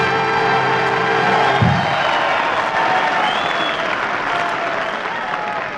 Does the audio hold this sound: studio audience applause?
yes